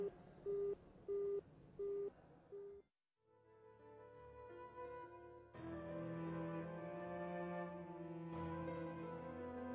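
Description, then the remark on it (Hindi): A mobile phone rings during a class: four short, evenly spaced electronic beeps, then a brief pause before a melodic ringtone tune starts and swells louder, playing on steadily with no voices. “अरे ऑफ कर दो इसको जल्दी, मैंने कहा था क्लास के दौरान अपने मोबाइल फोन बंद कर दिया करें”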